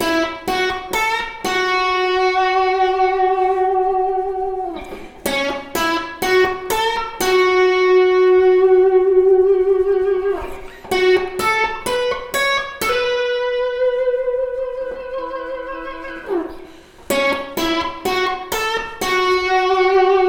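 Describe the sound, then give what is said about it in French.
A guitar riff of picked notes in short repeated phrases, several held notes bent upward in pitch so they slide and waver. Played alone, fairly loud, with no talking. “Et donc ça recommence, et la deuxième fois en fait vous allez jouer cette fois-ci en tirant les cordes.”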